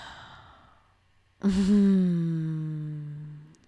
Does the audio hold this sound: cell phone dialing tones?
no